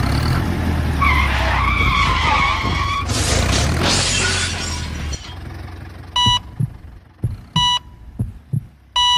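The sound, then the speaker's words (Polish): Tires screech loudly before a violent crash with glass shattering and debris scattering, depicting Natalia's collision with a tractor during cycling training in Spała. Afterward, slow heartbeat thumps and steady electronic beeps follow in a quieter stretch, with no voices. “Jadąc tempówki na treningu kolarskim, zderzyła się z traktorem.”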